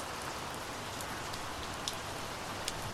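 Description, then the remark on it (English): Steady Irish rain falls in a continuous hiss, with scattered sharper drips pattering down off leaves now and then. No voices, just the even wash of rainfall throughout. “You can hear the rain maybe. Can just pick it up?”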